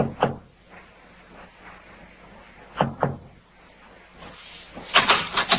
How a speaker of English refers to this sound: First Officer Forsyth, with Watchman Petrie at his elbow, knocked discreetly on the door to B-24.